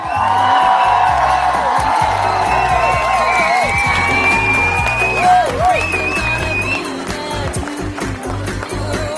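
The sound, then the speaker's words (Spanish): A loud crowd ovation fills the space, with sustained applause, whistles and scattered whoops and cheers rising over a dense, continuous roar. “Hombre, una ovación como Dios manda, de las de la maestranza.”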